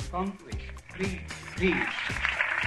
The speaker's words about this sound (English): Did you hear that? He got some applause. That's why people to clap, right?